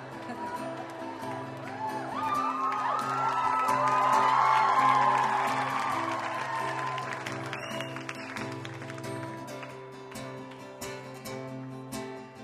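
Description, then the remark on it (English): A large concert crowd cheers, claps and yells that they love the performers in a dense roar that swells to a peak around the middle with shrill whoops, then slowly eases while the clapping and shouting continue. “It's so hard to start a song when everyone just keeps yelling that they love you.”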